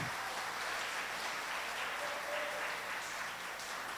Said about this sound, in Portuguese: Aleluia! Dê uma salva de palmas para o Senhor Jesus, meu irmão.